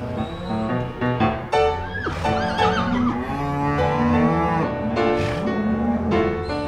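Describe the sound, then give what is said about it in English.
Several calves bawl loudly and continuously while being branded on the hip, castrated, earmarked and given shots by ranch workers, their drawn-out, overlapping cries rising and falling, with no talking over them. “Todd's going to put a brand on his hip. Julie's going to castrate him. Sean's putting an earmark on them”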